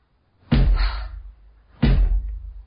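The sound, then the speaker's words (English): Two loud, heavy knocks on a wooden cottage door in the evening, about a second and a half apart, each a deep booming thud with a short ringing decay. No voices are heard. “Someone's outside the door.”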